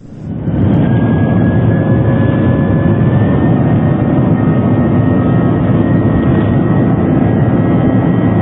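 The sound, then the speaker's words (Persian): A Tupolev TU-154 jet airliner engine roars loudly and steadily, a dense low rumble topped by a thin, sustained high whine, with no voices over it. “نگاهی داره به سابقه ایمنی هواپیمای توپولوف TU-154، هواپیمایی که امروز در تهران سقوط کرد.”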